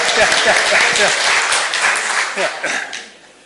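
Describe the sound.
Audience applause for a quiz winner who got five questions right, a dense wash of many hands clapping at steady volume before thinning and fading out near the end, with some voices mixed in.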